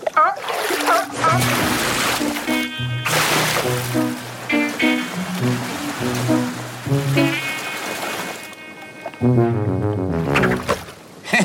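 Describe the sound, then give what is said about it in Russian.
Water splashes and sloshes steadily throughout, fairly loud, as someone fishes trash out of the water, while people talk over it, with a brief quieter pause near the end. “Я вылавливаю из воды мусор.”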